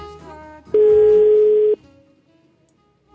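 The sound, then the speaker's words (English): A telephone call to an upscale place in Brazil rings once, a loud steady electronic buzz lasting about a second, then fades into quiet room noise with no one picking up. “They don't even have anyone manning the phones.”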